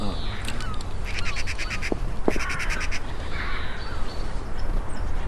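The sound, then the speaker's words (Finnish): Harsh, repeated bird calls ring out over a steady low rumble, a run of quick, evenly spaced cries in the middle, fitting gulls calling in the background. No one speaks. “Lokit kailantaa. Varmaan lokit taustalla.”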